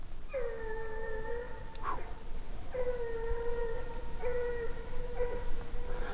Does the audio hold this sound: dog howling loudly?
yes